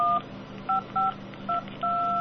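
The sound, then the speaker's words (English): A phone used as a tone dialer plays DTMF dialing tones through its speaker: five crisp dual-pitch beeps, several short and the last one held longer, with a faint hum underneath and no talking. “Because you can play back those tones, because you can set your phone to play back those tones continuously through the speaker.”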